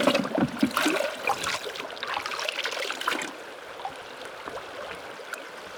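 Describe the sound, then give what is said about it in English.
Stream water splashes and trickles in bursts as it is scooped and poured into a bin to hold an egg mass being moved, with gurgling that settles into a softer steady stream toward the end. No voices. “You want to get some water in your bin.”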